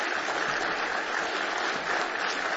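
Steady applause from an audience at a morning church service, welcoming a visiting family from Carrot River, Saskatchewan, Canada; a dense crackle of many hands clapping at an even level for a few seconds, with no voices over it.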